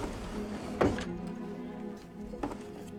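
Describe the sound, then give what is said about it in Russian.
A wooden dresser drawer slides open with a short scraping thud as a woman puts a two-piece swimsuit inside, then slides shut a moment later, over a low steady hum. “Она выдвигает ящик комода и кладет купальник внутрь.”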